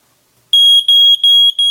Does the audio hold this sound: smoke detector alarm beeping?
yes